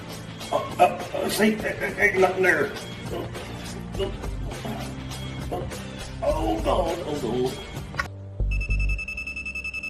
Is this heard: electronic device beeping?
yes